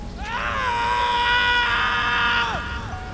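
A man lets out one long, loud scream that rises sharply, holds steady for a couple of seconds, then breaks off with a falling cry, cutting through the low roar of a raging storm overhead.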